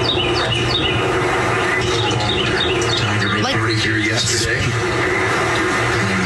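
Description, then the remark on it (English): A bird calls over and over with sharp, squawking chirps, fairly loud, over a noisy background of indistinct voices and low hum. “They're trying to talk, and all I can hear is this bird.”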